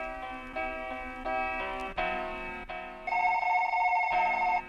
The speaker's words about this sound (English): Somebody pick up the phone.